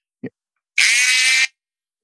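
A pencil being sharpened in an electric sharpener: a soft knock, then a loud, steady motorized whir with a low hum, lasting under a second before cutting off.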